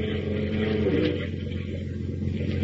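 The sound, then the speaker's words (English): The diesel engine of the fishing boat Nancy Ruth drones steadily with a deep, even hum as it heads eastward over choppy water in a swirling gray fog, its low throb running unbroken under a wash of rushing, hissing water noise throughout. “As we continue now, we join Lois and Horatio Horn aboard the Nancy Ruth, Captain Marvel's diesel-powered fishing boat.”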